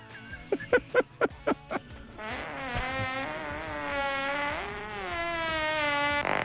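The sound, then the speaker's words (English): A fart sound effect: six quick, evenly spaced sputtering bursts, then one long, loud, buzzy blast with a wavering pitch that stretches on for several seconds, with no one talking. “Was that a fart?”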